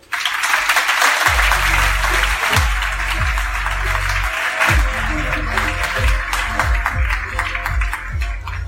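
Dense, sustained audience applause rolls on for the whole stretch, joined after a moment by a pulsing low bass line of music beneath the clapping.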